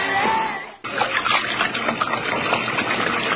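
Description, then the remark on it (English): Steady rush of tap water running, with a brief dip before the flow resumes, splashing and churning as if hands are being rinsed under it. “There's a good reason why doctors and dentists are always washing their hands.”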